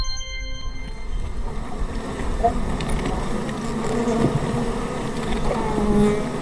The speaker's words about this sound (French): D'ailleurs, une des plaques sensibles qui réveille les sons du smartphone diffuse la voix des abeilles, un enregistrement en provenance d'un parc catalan.